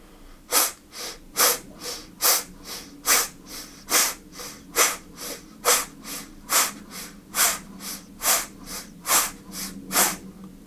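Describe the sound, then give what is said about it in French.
A fast, steady series of sharp nasal exhalations, about two per second, each a short breathy puff through the left nostril with the right nostril closed by the thumb, during a breathing exercise, clear with no talking. “Et vous respirez en chassant l'air à chaque respiration par la narine gauche.”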